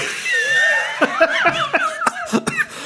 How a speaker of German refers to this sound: Entschuldigung, ich weiß, man sollte jetzt nicht husten, aber das ist wirklich geil, weil man denkt ja dauernd so mit und was kommt jetzt eigentlich?